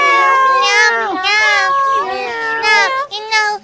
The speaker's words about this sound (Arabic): مياو مياو، اسمعوا اسمعوا يا قطط الصغار، سوف أخرج وأعود بسرعة. مياو مياو، ألا تأكل معنا يا ماما؟